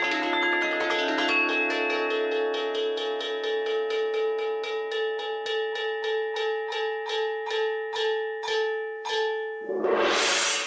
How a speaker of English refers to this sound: The bell has ridges on it, which means if you strike those ridges, it excites certain frequencies. When you hear it, it actually sounds like there's multiple instruments playing, but it's literally just playing these two bells with drumsticks.